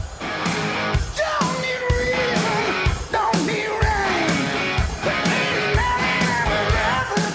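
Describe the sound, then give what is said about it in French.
A loud live rock performance with pounding drums and roaring guitars, over a dense wash of crowd noise and yelling that stays steady throughout. “Ici, les prophètes s'appellent ….”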